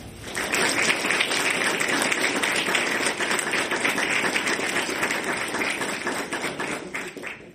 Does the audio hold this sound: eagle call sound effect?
no